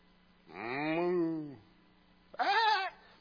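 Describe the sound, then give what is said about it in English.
A voice imitates farm animals: a long, drawn-out low moo that falls in pitch, a brief pause, then a shorter, higher sheep-like bleat, both loud. “Wait, what is this bleating of the sheep? What is this lowing of the cattle?”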